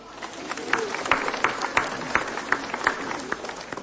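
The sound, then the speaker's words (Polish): An audience at a pilgrimage to Our Lady of Tuchów applauds a band, which accompanies the prayers with song and music, steadily for a few seconds: a dense wash of many hands clapping together, with sharper, louder claps popping out at fairly regular intervals over the crowd's sound. “Brawa!”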